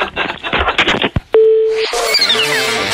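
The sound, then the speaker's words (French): A steady, flat telephone line tone hums loudly on an open line left by someone who failed to hang up the phone, following a moment of talk, then continues beneath bright descending whooshes and jingle-like sounds. “Ah ouais, et puis il y en a vraiment qui ont un problème pour accrocher leur téléphone.”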